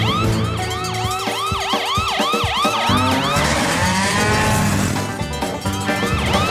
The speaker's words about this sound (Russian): Гонщик, сирену. Включаю, Райдер.